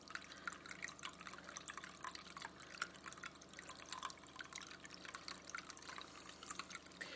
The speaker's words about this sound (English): The only thing that alleviates it a little bit, not a huge amount, but it makes the room a little more pleasant, is this. My water feature.